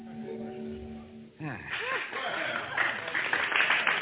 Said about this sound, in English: Oh, thanks, ladies and gentlemen, for your kind applause.